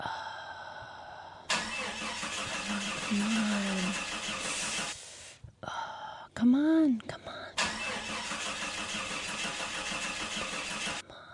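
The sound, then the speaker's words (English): An old car engine cranks repeatedly in two long, grinding attempts that fail to catch, separated by a short pause where a brief voice is heard; the cranking is loud. “I have to buy a new car.”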